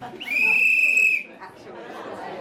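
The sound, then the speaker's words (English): A single loud, shrill whistle blast, steady and high-pitched, holds for about a second over murmuring voices, then cuts off as crowd chatter carries on. The whistle starts a five-minute speed dating round pairing female marketing professionals with potential employers. “So there'll be a whistle to start, a whistle at the end of 5 minutes, and we will finish in an hour's time.”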